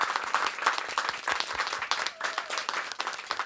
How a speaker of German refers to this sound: für die ganz gerne nochmal richtig lauten Applaus geben.